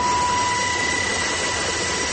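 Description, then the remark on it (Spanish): A Colombian Air Force helicopter roars steadily overhead above dense jungle in Palma Rosa, Solano municipality, Caquetá, Colombia, during the rescue of four indigenous children; its loud engine drone and high turbine whine are continuous, with no voices. “Escuchamos un helicóptero de la Fuerza Aérea Colombiana.”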